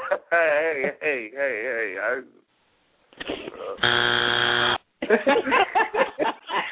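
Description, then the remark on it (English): A contestant presses a buzzer on a quiz show: a single loud, harsh buzz for about a second, a steady raspy electronic tone, with people talking just before and after it. “You just wanted to buzz me just to be buzzing me.”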